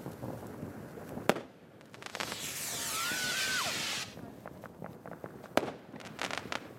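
Fireworks crackle and pop steadily, with sharp loud bangs near the start and end. In between, a rocket launches with a sustained hissing whoosh and a thin rising whistle.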